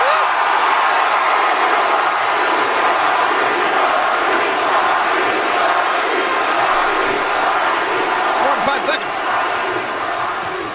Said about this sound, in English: 5 seconds of the people chanting The Rock's name